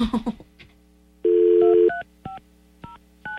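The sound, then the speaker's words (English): A telephone keypad being dialed: a steady electronic tone, then four crisp dual-tone beeps spaced unevenly apart, clear, with a brief clatter of handling just before. “You can't dial it when it does the do-do-do-do thing.”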